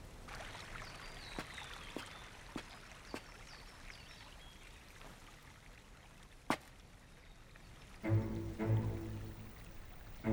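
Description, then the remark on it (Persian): Water flows in a steady, soft rush throughout, broken by a few sharp clicks. Near the end a louder, brief tonal sound rises over the flow. “جریان آب اینجا عوض شده.”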